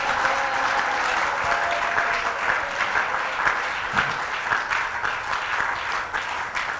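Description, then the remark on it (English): An audience claps steadily and loudly, with a dense wash of handclaps and scattered shouts and cheers rising over it for several seconds without letting up, shouting and clapping to God's glory at a preacher's call to those who are born again. “So anybody that has a witness in the spirit that you are born again, let me hear you shout and clap to God's glory.”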